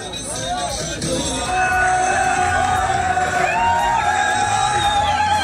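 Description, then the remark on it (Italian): A large crowd of Gaza's population shouts and cheers in celebration of the ceasefire agreement reached between Israel and Hamas, a dense roar of many voices with whoops and yells rising over it, loud and sustained throughout. “L'accordo raggiunto tra Israele e Hamas per un cessate il fuoco a Gaza, quelli che avete appena sentito sono ovviamente le urla di gioia e festeggiamenti della popolazione.”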